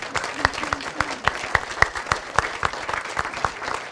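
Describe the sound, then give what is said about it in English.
An audience gives itself a round of applause, many overlapping sharp hand claps forming a dense, continuous patter of moderate loudness and no talking. “If you would please give yourselves a warm hug and a round of applause.”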